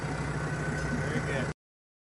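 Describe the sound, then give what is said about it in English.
A big tractor engine chugs steadily at a low, throbbing idle, loud, for a second and a half before cutting off abruptly into silence. “God loves you with an everlasting love, no matter where you are, even in the midst of a big tractor, he does.”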